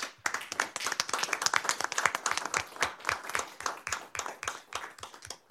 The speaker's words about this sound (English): Let's see the applause cards. Yay.